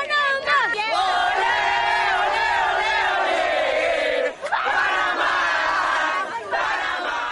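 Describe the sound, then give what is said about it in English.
A large crowd of Panama football fans at the World Cup chants loudly in unison, sustained voices rising and falling in a steady, continuous roar, with a brief dip before the chanting surges back. “And speaking of Panama, they may have lost their 3-0 World Cup opener against Belgium, but these fans didn't seem to notice.”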